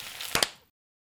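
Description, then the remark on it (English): A sharp hand clap made to mark an edit point, heard as two quick, bright snaps in close succession over a light hiss, then the sound cuts to silence. “We'll clap for the edit.”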